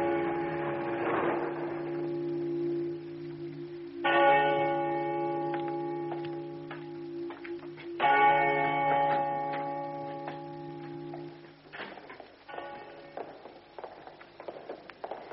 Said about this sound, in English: Pull up by the gate opposite the carry-on. The what? New word to you, Tom. It means a peal of bells.